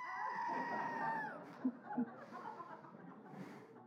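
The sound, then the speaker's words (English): A person imitates a goat's bleat with a loud, quavering, nasal cry lasting just over a second, followed by quieter breathy vocal noises and faint background murmur. “Goat noise.”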